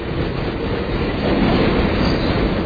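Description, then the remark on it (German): A train rumbles steadily past on the railway tracks, a loud, continuous roar of wheels and rail noise, with no voices. “Hören sie einen Zug kommen”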